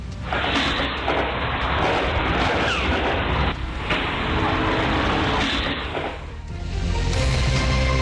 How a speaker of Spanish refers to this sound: Son 6 segundos de disparos, pero nosotros lo cortamos porque claramente son mucho más los segundos que tiene que ver con esta balacera.